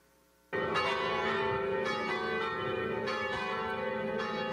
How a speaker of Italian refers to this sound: Da quanto tempo esiste questo campanile? Dal 1923. Da dove sono arrivate le campane? Tre sono arrivate d'Italia, proprio da Novara. Quindi è un campanile italiano? Sicuramente.